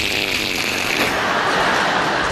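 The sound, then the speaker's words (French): A voice imitates skis sliding on snow, producing a loud, steady breathy hiss that carries on for about two seconds and roughens slightly halfway through. “Alors lui, son ski, ça fait « chut, chut, chut ».”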